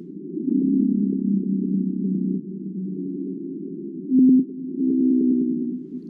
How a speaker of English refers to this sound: Well, here's a blue whale sound.